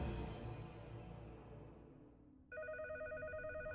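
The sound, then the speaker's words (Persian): After a low, fading rumble, a cheese telephone starts ringing partway through to signal an emergency, a loud warbling electronic ring with a fast pulsing rhythm that continues to the end, no voices. “تلفن پنیری وضعیت اضطراریه.”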